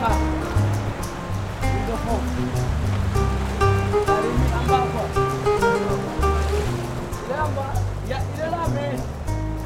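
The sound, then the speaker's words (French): Continuous low, rolling underwater rumble of ocean swell, steady and fairly loud, with murky churning water noise and some faint tonal hums drifting through. “La houle, elle est là.”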